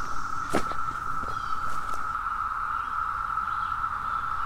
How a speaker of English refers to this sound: It is a din of cicadas. Not going to be able to hear much else.